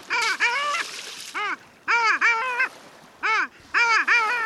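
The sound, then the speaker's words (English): A male long-tailed duck calls in a run of loud, nasal, yodeling notes, rising and falling in quick bursts of two or three, with no voices. “The name that probably comes closest to capturing the sound of the male's call is from the Cree language, Hahawe.”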